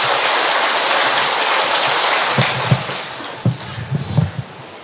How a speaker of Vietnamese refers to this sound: Trong niềm hân hoan mừng kính Mẹ hiện ra tại Fatima, anh chị em chúng ta hân hoan chào nhau một tràng pháo tay nồng nhiệt, thưa anh chị em.